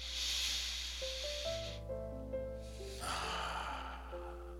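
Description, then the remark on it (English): A slow, deep breath drawn in and then let out, two long airy whooshes over soft, sustained ambient music notes. “And again, we bring our attention back to our breath, breathing in deeply.”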